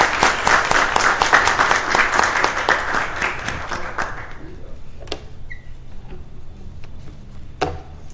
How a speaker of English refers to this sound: Let's give one more round of applause to all of our graduates.